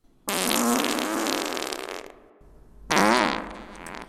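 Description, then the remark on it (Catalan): A loud fart sound effect: one long spluttering blast lasting nearly two seconds, a brief pause, then a second shorter raspy burst. No talking. “I de tan inflada com estava, de cop i volta, se li va escapar un pet com un aglà.”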